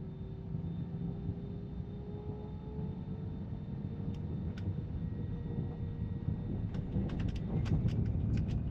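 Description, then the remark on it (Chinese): Steady airplane cabin ambience on a crowded flight: a constant low engine drone with a faint whining tone, and a few soft clicks and rustles near the end. No one speaks. “坐下来了，每次坐飞机都觉得不舒服，还那么多人呢”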